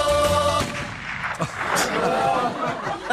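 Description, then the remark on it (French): Several loud, sharp rifle shots crack out in quick, irregular succession over a dense, noisy background, with a sustained tonal, voice-like sound heard at the very start. “Donc, on le dit chez vous, hein, utilisez les fusils et avec modération.”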